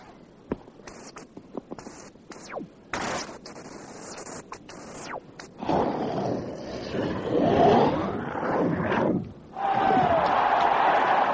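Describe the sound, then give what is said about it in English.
A run of sharp, rapid impacts as a rally of a ball game is played gives way to a loud, sustained roar of recorded crowd cheering wildly, surging for several seconds, dipping briefly, then swelling again. “Did you hear that? The crowd's gone mad.”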